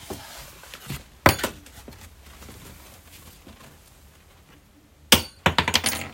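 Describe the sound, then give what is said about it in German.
A metal key drops onto a hard floor as a book is taken from a shelf, a sharp jingling impact followed by a few small bounces, then a second burst of rattling clinks near the end; no one speaks. “Oh, was ist denn da runtergefallen? Ist ein Schlüssel runtergefallen.”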